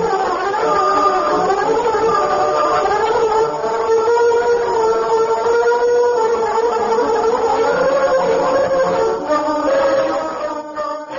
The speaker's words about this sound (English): Suddenly, he was startled by hearing a shrill whistle out on the deserted street. Oh, that sounds like signal whistle coming out on the street.